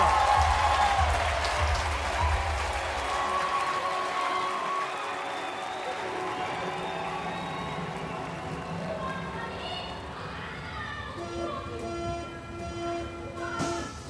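An audience at a live show in Berlin claps and cheers for about fourteen seconds, a dense, steady wash of applause that slowly thins out, with some higher whistling tones and crowd noise rising toward the end.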